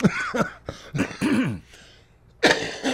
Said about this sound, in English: Excuse me. Now, don't get me to coughing. I'm trying not to.